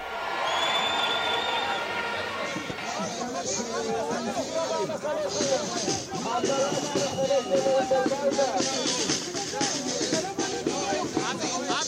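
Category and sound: crowd, protest crowd chanting slogans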